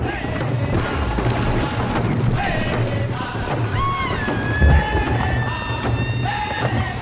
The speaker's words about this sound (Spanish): Atacaron con el rayo la montaña rocosa.